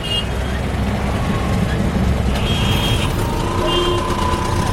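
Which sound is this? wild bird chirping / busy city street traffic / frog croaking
busy city street traffic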